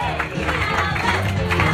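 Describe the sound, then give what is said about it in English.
A live audience cheers and applauds loudly and steadily as an audience member is called to the stage to tell a story, a dense wash of clapping and excited voices with no pause. “Always got a cheering squad.”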